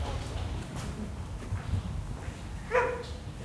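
Paul, a mixed-breed agency dog, gives one short, high yelp or whine near the end, heard over a steady low rumble of background noise. It is brief.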